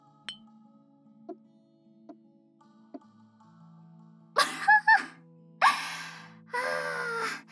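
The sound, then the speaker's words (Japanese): Four soft, evenly spaced glass clinks or gulps as milk is drunk in one go from glass milk bottles after a bath, followed by several loud, breathy gasps and exhalations. No talking. “ついつい一気飲みしちゃいましたよ。”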